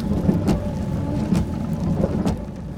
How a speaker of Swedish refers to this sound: Regnet trummar mot vindrutan och torkarna låter som ett mantra.